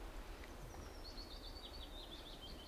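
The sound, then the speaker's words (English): A bird chirps and warbles in a thin, high, continuous line of quick notes, fairly faint against a steady low outdoor rumble, with no voices. “Look at this bird, it's happy now.”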